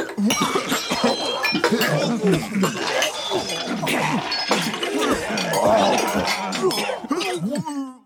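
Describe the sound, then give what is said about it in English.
A dense, overlapping crowd of people gagging and retching, made by recording several office workers gagging in many different ways and layering them together, many throaty heaves at once into a loud, continuous, churning mass with no clear rhythm. “So I grabbed a bunch of people around the office, and we recorded ourselves gagging in lots of different ways.”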